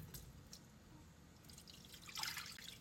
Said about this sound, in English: All right, y'all, I have my pan and I don't wanna hear no one talking about I need new pans. Pans like this, they get the job done. Water in the pan.